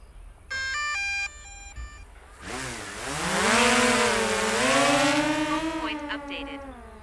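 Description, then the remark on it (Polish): A quick run of electronic beeps, then a drone's rotors whir up into a loud, buzzing whine that climbs in pitch and wavers unevenly as it hovers. The drone is used to look from above at where a sewage ditch flows into the Biała River in Poland. “Więc mamy tutaj dron.”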